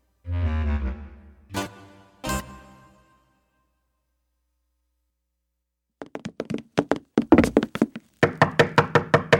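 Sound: knocking on a door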